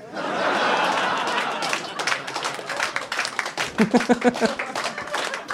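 An audience roars with laughter, then breaks into scattered, uneven clapping that keeps going while whoops and laughs pop up among the crowd.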